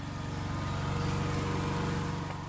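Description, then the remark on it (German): A diesel generator producing power for a chainsaw runs steadily among nettles and gravestones, its engine giving a constant low, rhythmic chugging hum that holds at an even level throughout, with no voices. “Georg Gietz steht inmitten von Brennnesseln und Grabsteinen neben dem Dieselgenerator, der den Strom für die Kettensäge produziert.”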